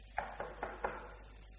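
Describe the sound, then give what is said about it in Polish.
Four quick, evenly spaced, crisp knocks on a door, with nothing else but a faint hum. “Jeśli przychodzi, staje u drzwi tego życia, to puka.”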